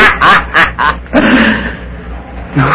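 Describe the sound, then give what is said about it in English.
Quick, quack-like chirping bursts, four in rapid succession, followed by a longer drawn-out squawking call and one more short squawk at the end. “Stop chirping at me, or I'll pinch your head off and let you bleed.”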